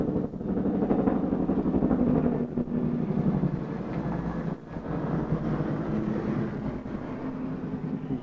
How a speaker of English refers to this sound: I had to let the helicopter fly below so you could hear what I said.